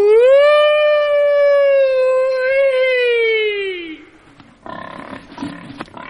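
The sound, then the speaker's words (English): A man lets out a long, loud, sustained pig-calling yell, his voice holding a steady pitch for about four seconds before dropping off, followed by muffled voices talking. “You need a voice that has been trained on the open prairies, competing sometimes with tornadoes.”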